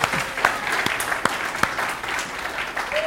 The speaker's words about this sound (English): He's the real deal. Can we give him a round of applause for just being a great pastor?